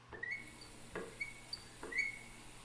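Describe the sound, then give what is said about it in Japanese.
A shower runs with a steady, soft, airy hiss as water rinses a person's back and waist, broken by a few brief splashy bursts and faint high squeaky tones. No one speaks. “シャワー流しますね。”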